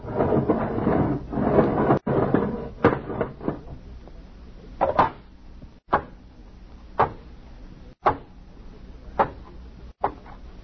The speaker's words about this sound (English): Check the lock seal. Okay. All right, open the inner door.